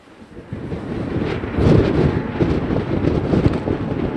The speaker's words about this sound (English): All geared up, we head back outside into the wind on the pier. It's high summer here, but the gusts give us a taste of what to expect as we head farther south.